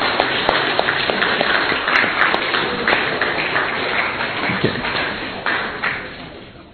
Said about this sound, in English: And while they're passing those out, let's give a round of applause to our mothers.